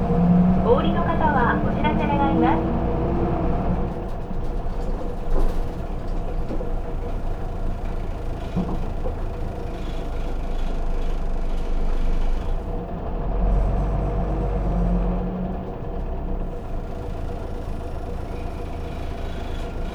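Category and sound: vehicle, bus pulling away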